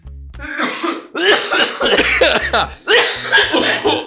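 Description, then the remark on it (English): A loud fit of coughing in three harsh bursts, the first short, then two longer raspy spells separated by brief pauses, with no talking. “Cough break.”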